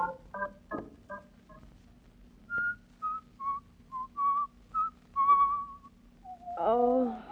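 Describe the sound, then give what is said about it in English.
Someone whistles a short, bright tune, Turkey in the Straw, a run of about eight clear notes at a lively, even pace. Brief vocal sounds come before it, and a voice starts speaking as it ends. “Oh, stop whistling that turkey in the straw.”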